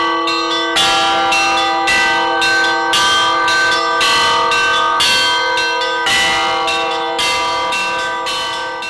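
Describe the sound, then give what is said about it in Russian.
Church bells peal loudly and continuously, several bells striking in overlapping rhythm with rich, ringing overtones that sustain throughout, with no voices present. “Проплывавшие мимо обители корабли приветствовали его пушечными выстрелами, а монахи благословляли моряков иконами под колокольный звон.”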